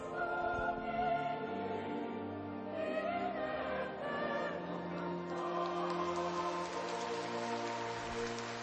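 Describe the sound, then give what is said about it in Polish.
Warm, sustained applause from a crowd of pilgrims gathered to meet Pope Francis at the Basilica of Divine Mercy in Kraków-Łagiewniki, a dense, steady patter of clapping that holds at an even loudness, with sustained tones beneath it. “Nie może zabraknąć tych gorących oklasków, płynących z gorących serc, pielgrzymich serc, które przybyły na dzisiejsze spotkanie z Ojcem Świętym, który jest już obecny w Bazylice Bożego Miłosierdzia w krakowskich Łagiewnikach.”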